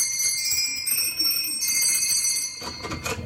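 A bell at the door of Santa's workshop at the North Pole rings with bright, sustained metallic tones that shimmer for a few seconds, then a brief burst of clattering noise near the end. No one speaks.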